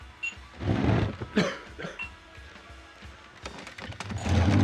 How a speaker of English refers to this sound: And we're going to need that clip of awkward coughing, chairs being skittishly scraped, etc.